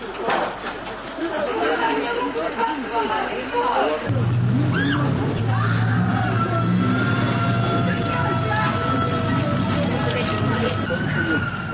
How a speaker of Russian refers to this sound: Кричат избиваемые женщины.